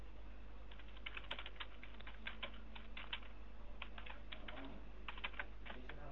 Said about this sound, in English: What are you typing over there? Nothing really.